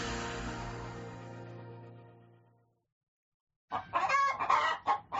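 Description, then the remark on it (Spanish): A sustained tonal call fades out, then after a short silence a hen clucks loudly in a burst of quick, choppy cackles with no talking. “cualquiera podría venderte la gallina de los huevos de oro.”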